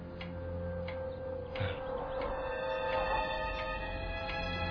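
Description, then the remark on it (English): A clock ticks steadily, roughly one tick every two-thirds of a second, over a constant low hum and faint background noise. The ticks are soft and evenly spaced, with no one talking. “it's a clock. It ticks.”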